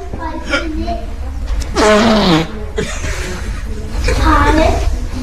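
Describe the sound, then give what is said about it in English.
A person imitates farting by mouth, producing several loud, sputtering fart noises in a row, with two longer, buzzy blasts standing out among shorter bursts. “You're in a library, and there's a woman just farting in the corner a lot.”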